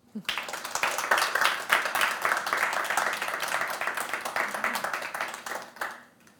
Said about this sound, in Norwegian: Så då är det bara att ge dig en god applaus.